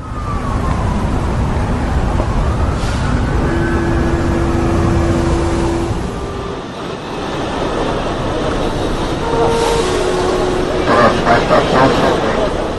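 A boat engine rumbles loudly and steadily on the water, with a rising whine and brief tonal horn-like sounds drifting over the constant churning noise.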